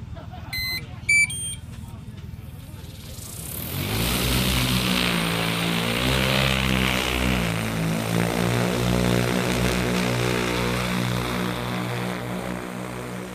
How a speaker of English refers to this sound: I am the head of GIS and engineering at Aerolab, and we're here today at Central District Field Days, and we've got our drones and robots on display. So we've got our P100 spray drone running.